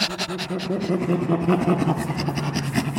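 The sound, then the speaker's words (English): A person imitates a chimpanzee laugh with a quick run of breathy, panting huffs on both inhale and exhale, voiced and rhythmic, lasting about three seconds. “Chimpanzees, their laugh is on the inhalation and the exhalation, and it's kind of a panting sound.”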